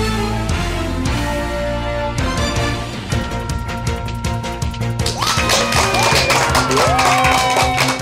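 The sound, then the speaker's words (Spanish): Loud, steady applause and cheering from a crowd, with whistles rising over the clapping in the second half, all layered over upbeat music. “Y con esa energía positiva y esos aplausos damos inicio a este episodio número 174 del programa Te Invito a un Café.”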